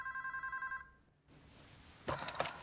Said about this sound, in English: is woken by a phone ringing at her bedside. She reaches out to pick up the receiver.